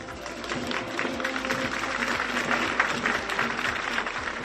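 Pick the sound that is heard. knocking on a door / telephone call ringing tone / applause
applause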